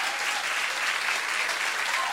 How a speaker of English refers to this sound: Well, thank you. Thank you for your added applause.